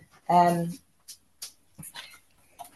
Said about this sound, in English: Sorry, I've got a dog wanting in. Go on, let him in.